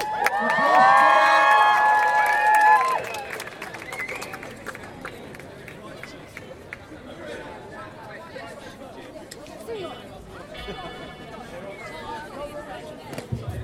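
crowd cheering

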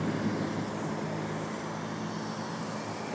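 street traffic

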